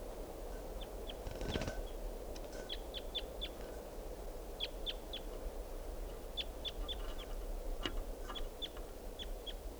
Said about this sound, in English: recording Wild Bird here.